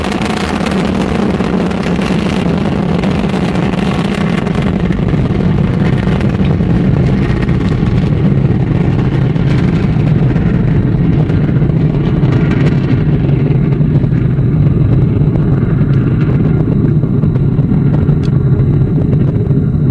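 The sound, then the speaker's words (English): An Ariane 5 ECA rocket launching the SkyMuster satellite from CSG roars loud and unbroken for the whole stretch, a deep crackling rumble with heavy bass and a hissing wash on top, no voices heard. “and it really is as the mighty Ariane 5 ECA roars out toward Devil's Island, one of those bucket list events to have watching an Ariane 5 thunder into the sky from CSG.”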